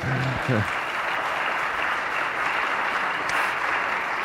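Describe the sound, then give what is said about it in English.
An audience at Park Street Brethren Church breaks into steady, sustained, dense applause celebrating a woman's 30th year of employment there, with a brief voice at the very start before the clapping fills the space for several seconds. “You should probably clap for that.”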